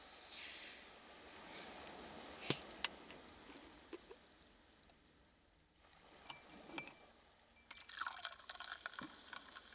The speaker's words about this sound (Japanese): 適量を入れましたら、こちらに炭酸水を注いでいきます。